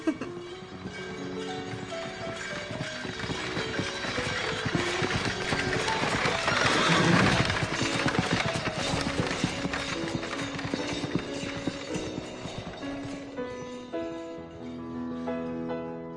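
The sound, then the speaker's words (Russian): Steady clip-clop of horse hooves trots along over a bed of tonal music, with a horse's neigh rising loudly near the middle before the hoofbeats carry on. “А то, что наша сегодняшняя программа посвящена лошадям.”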